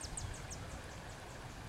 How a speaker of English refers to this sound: I'm down here by the little bridge. You can probably hear the birds and hear the water running.